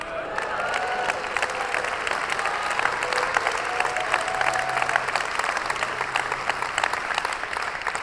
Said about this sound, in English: And hang on, thank you for wanting to clap, but hang on, you gotta get this one, then you can clap.